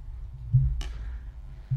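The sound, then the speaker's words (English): Pint glasses of beer knock together: a dull thud, then a bright clink, and a second heavier thump and clink near the end, with no talking. “That's the sound of pints.”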